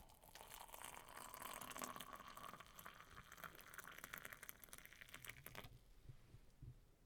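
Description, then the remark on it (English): Tea pours steadily into a cup that already holds milk for about six seconds, a splashy trickle whose pitch creeps upward as the cup fills, then the pour stops abruptly, leaving faint background noise. “Milk in the cup. Pour the tea.”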